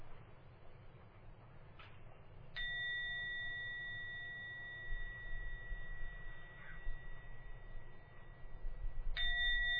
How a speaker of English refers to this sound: Now going to ring the gong three times. Please listen to where we sound from the gong and let the third ding of the gong take you out from your meditation.